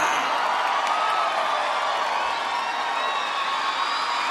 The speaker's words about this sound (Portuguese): Um gritinho, a salva de palmas!